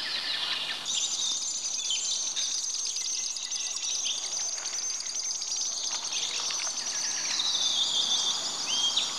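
Shrill, high-pitched whistling calls of common sandpipers flying low over the water ring out almost continuously, layered with rapid chirps and trills at a steady, fairly loud level, with no voices present.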